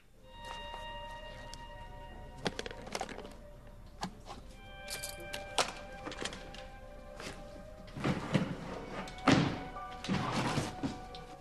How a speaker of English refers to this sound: He dons a latex glove and opens a drawer, turning over bits of stationery.